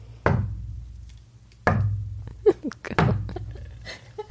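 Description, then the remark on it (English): Soft, slow knocks made by knocking on a coaster as a Foley sound effect for knocking on a bedroom door, about four hollow taps spaced over a second apart, with faint low rumble and a few small clicks between them. “She picked up a coaster and knocked it when she's got a huge wood table.”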